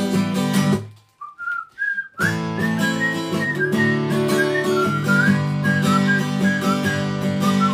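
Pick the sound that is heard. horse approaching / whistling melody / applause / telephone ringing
whistling melody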